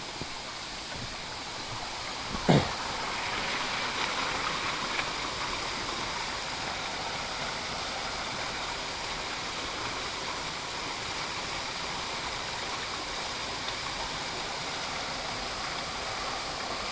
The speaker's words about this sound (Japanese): ここにね、名もない滝があるんですけど